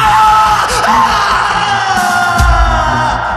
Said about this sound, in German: In der Halle angekommen, hörten sie erneut einen markerschütternden Schrei.